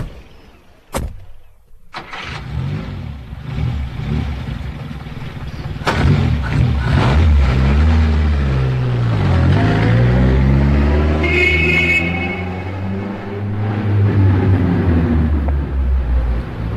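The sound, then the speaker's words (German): A car engine starts up and revs loudly, its pitch rising and falling as the car accelerates while being driven to a yacht, with a couple of sharp thuds at the beginning and no voices. “Wir fahren zur Yacht und lassen den Wagen dort stehen.”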